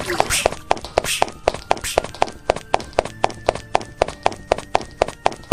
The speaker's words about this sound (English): Quit stomping your feet. Quit.